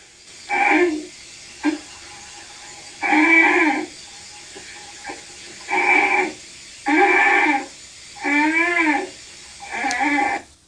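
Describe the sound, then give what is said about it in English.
A bear cub honks repeatedly for its mother, about seven nasal, bleating calls in uneven bursts, some wavering in pitch, with quiet gaps between and no voices. “I just wouldn't think bears would make such a honking sound.”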